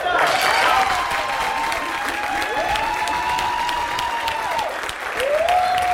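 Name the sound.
audience applause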